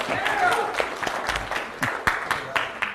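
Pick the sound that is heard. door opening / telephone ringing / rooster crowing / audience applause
audience applause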